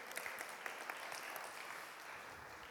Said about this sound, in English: Excellent. Let's have a round of applause for our volunteers.